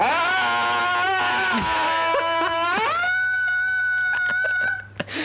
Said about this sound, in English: So this is examples of people screaming at pictures of landscape. That's correct, yeah.